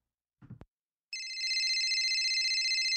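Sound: telephone ringing sound effect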